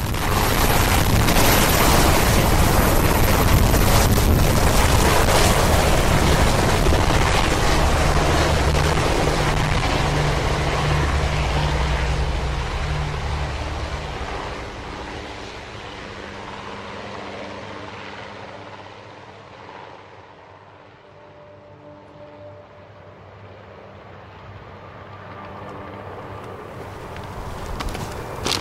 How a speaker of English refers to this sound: Then, the first family leaves the Capitol by helicopter.